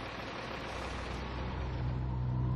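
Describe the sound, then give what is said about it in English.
A wagon's engine on an old blacktop road in bright late-afternoon sun drones steadily with a broad, rough rumble and a low tonal hum that strengthens and rises slightly in pitch near the end as the engine gives out; no one speaks. “About 8 miles farther along the old blacktop, just as the bright sun of late afternoon was breaking through, the engine gave out.”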